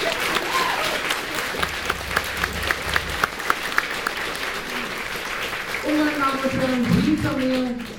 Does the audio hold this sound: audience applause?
yes